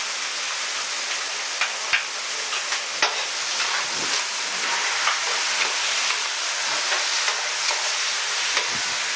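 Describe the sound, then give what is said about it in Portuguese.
Steady sizzling of food frying in a skillet, with scattered scraping clicks as it's stirred. The crackling hiss runs continuously and no one speaks. “Vou desligar o fogo e deixar ele terminar fritando só no calor da frigideira.”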